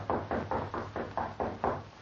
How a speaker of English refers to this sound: Then he replaced it carefully on the wall, just as a light knock sounded at his door.